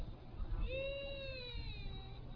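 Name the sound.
baby crying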